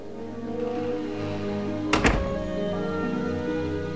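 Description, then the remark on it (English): A woman gently shuts her door with a soft, muffled thunk, two quick close-together impacts rising briefly over a steady low ambient hum, then quiet continues. “She turns away and goes back inside, glancing back once at Picard before softly closing her door, breaking their gaze.”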